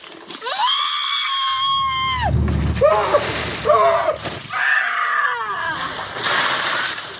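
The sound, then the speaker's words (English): A bucket of ice water is dumped on a person's head: a loud splash wrapped in the person's high, sustained scream, followed by several sharp gasping yelps and shrieks. “Remember when the internet exploded with videos of people dumping ice water on their heads?”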